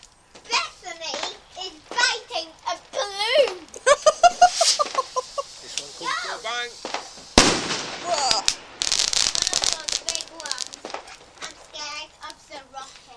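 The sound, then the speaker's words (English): Fireworks bang and crackle in a quick burst of sharp pops, fairly loud, while children chatter and shout excitedly before and around the explosions. “Until after at least they've done the fireworks, and then we'll see.”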